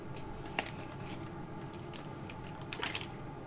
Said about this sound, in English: Wow. Water tastes really good.